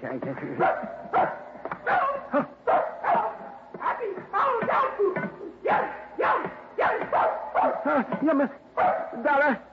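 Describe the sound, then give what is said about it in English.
A female dog barks and yips in a rapid, uneven string of fairly loud bursts, some stretching into whiny, almost talk-like howls, continuing for about ten seconds with no human voices. “Do you hear? She say, happy holiday, dog food.”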